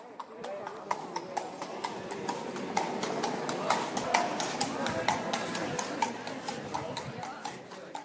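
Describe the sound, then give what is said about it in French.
Horse hooves clip-clop steadily on hard pavement as horses pull tourist carriages, many overlapping hoofbeats in a brisk rhythm, with a low murmur of voices and street bustle underneath. “Les pas des chevaux tirant les calèches touristiques?”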